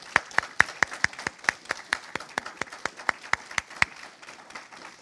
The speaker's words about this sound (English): I'm ready for another round of applause for it. Let's do it.